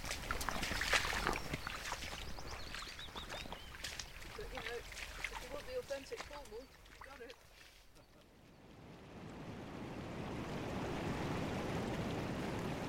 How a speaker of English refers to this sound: Here we are at Porth Towan Beach, and there are certainly some white-capped waves. It's beautiful, there? Isn't it? Watch your feet, it's very rocky on this bit. Yeah, some we're going over the pebbles. White-capped waves.